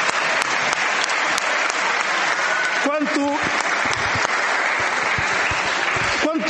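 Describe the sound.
Sustained audience applause fills the space, a dense steady wash of many hands clapping at constant loudness, with a brief voice or cheer rising through it near the middle.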